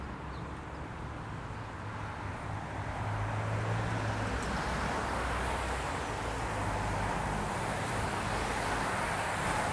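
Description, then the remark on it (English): A city bus rumbles along a street, its broad engine and road noise swelling slightly as it passes, with no one speaking. “There goes another eastbound bus.”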